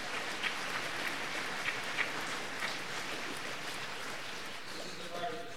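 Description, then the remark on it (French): An audience applauds during a speech in a dense, steady patter of many hands clapping for several seconds, with a few sharper claps standing out; a voice starts to come in near the end. “Il y en a qui applaudissent plus que d'autres.”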